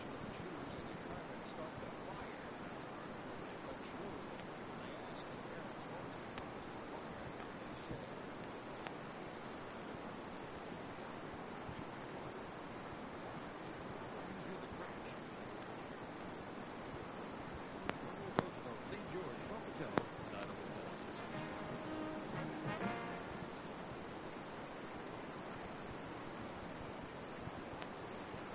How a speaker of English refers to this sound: You may have been able to hear the Dixie Rebels cheers in the background. A healthy group of St. George fans here for this tournament.